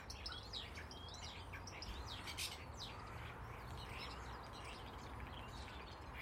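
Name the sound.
bird singing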